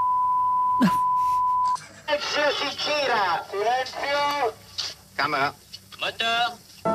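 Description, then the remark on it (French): A thin, steady whistling tone at the start of the trailer for the film Le Livre d'Images holds at one pitch for nearly two seconds, then cuts off as several voices begin speaking over a faint background hum. “Oui, il y a de la musique, il y a du mille aussi, comme on dit, cette espèce de petit sifflement du début.”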